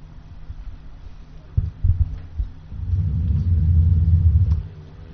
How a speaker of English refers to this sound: Everyone might want to make more of an effort to speak into the microphone this evening. The air conditioning is causing a lot of noise, and it's a little difficult to hear.